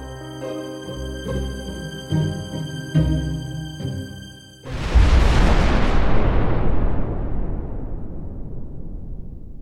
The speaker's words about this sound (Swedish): Fyra minuter över nio smällade. En monumental, fullständigt förödande explosion.